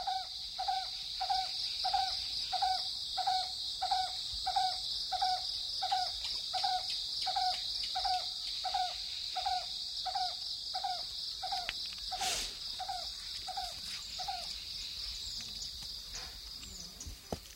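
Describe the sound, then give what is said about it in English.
An Asian koel calls from its mango tree in the Indian countryside near Madhubani on a heavy-dew morning, in a steady, rapid series of about twenty short, mellow notes over a constant high insect drone, then falls silent while the droning continues. “That's the coil bird, waiting to ambush anyone walking near its mango tree.”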